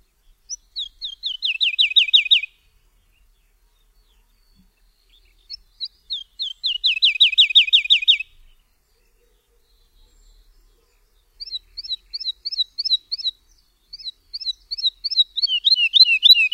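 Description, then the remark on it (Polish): Clear woodlark song in separate bursts, each verse of 2 to 5 phrases, each phrase a rapid series of repeated high chirping notes that speeds up and drops in pitch toward the end, with short silences between phrases. “Każda zwrotka składa się z 2 do 5 fraz złożonych z kilkakrotnych powtórzeń tego samego motywu.”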